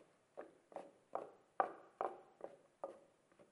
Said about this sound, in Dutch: Hij zelf kwam bij hen lopen. Het is eigenlijk alsof ze op klompen lopen. Zo, over dat paadje.